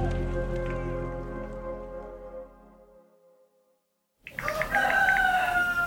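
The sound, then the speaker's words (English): A rooster crows loudly, one strained, wavering cock-a-doodle-doo that bursts in after a fading musical chime and a brief moment of silence. “Oh, I hear a rooster.”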